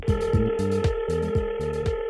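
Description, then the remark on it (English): A telephone rings in a steady repeating pattern, with bright trilling bursts over a sustained electronic tone, fairly loud, with no voices. “I have been waiting to get a phone call all day, and I cannot wait to hear this question.”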